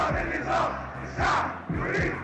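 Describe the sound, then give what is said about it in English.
A large protest crowd in the streets shouts slogans in a steady, rhythmic chant, loud massed voices rising in repeated bursts over a constant roar. “People poured into the streets shouting words that became slogans of their hopes and dreams.”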